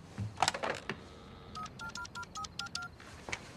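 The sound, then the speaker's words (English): A telephone being dialed: a brief clatter of the handset being picked up, then a quick run of about seven touch-tone beeps, clear, with no one talking. “He goes over to the phone.”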